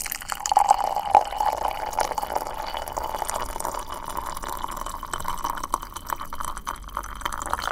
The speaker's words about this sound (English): So if you have a kettle, bring it to a boil and pour it into a mug.